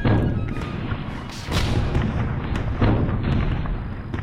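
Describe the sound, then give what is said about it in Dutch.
Heavy cannon fire booms in a dense barrage from French artillery besieging Maastricht in autumn 1794, with 140 guns set up around the city; deep thuds roll one into another with sharp cracks at irregular moments, loud and continuous with no voices. “De Fransen stellen 140 stuks geschut op rond de stad en beginnen het beleg.”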